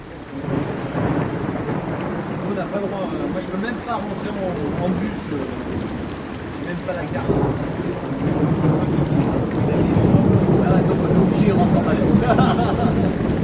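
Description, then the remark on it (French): Heavy rain pours down in a steady, dense roar with a deep low rumble underneath, growing louder and fuller during the second half, at 9 p.m. on the eve of a race. “Nous sommes maintenant à la veille de la course, sous une pluie battante, 21h”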